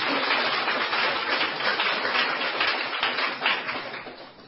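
An audience applauds together to thank the witnesses for their testimonies, a dense, steady wash of many hands clapping that holds at an even level for several seconds before easing off slightly at the end, with no one speaking.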